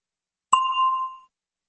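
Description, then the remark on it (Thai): A single bright bell ding, signalling time to answer a question in an English lesson, rings out clearly with a sharp strike and a clean tone that fades over about three quarters of a second, with silence before and after. “คำถามสำหรับทานเชิญรอฟังเสียงกระดิ่งก่อนและจึงตอบ”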